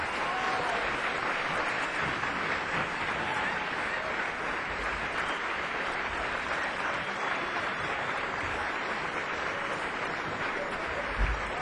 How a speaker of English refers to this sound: Good evening, ladies and gentlemen. Welcome to Yoshi's at Jack London Square. Will you please give a very warm round of applause and help bring to the stage on drums, ….